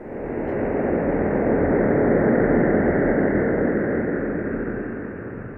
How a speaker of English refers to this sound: And there was a sonification, turning the image the EHT collected into sound. I want to play a selection of this and have you tell us what we're hearing.